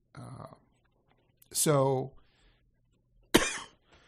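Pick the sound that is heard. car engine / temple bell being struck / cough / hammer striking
cough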